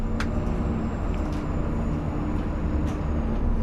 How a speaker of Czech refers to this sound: Zatím sedíme v autobusu jen tři, to se ale změní.